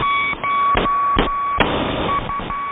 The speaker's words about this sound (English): Number stations have been around since the First World War. Back then, these numeric messages were often sent using Morse code.